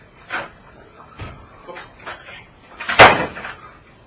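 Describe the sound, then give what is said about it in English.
An office door being opened, heard as a handful of scattered clunks and rattles from the latch and handle, capped by one sharp, loud bang near the end. “Let me just open that door so I don't have to use the key.”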